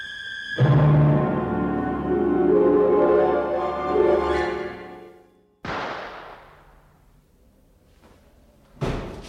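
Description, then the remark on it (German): In the 1962 radio crime play Schuss in der Nacht by Maria Lamball, a sustained, swelling passage of music breaks off into a single loud gunshot at night with a short ringing decay, followed by quiet and then another sharp bang at the end. “Das war doch ein Schuss.”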